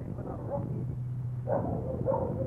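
Several newly arrived dogs of various breeds, mainly German Shepherds with Labradors and Chesapeake Bays, bark in the quarantine kennels of a guide dog school for the blind: a scatter of overlapping barks and yelps over a steady low hum, growing a little louder toward the end.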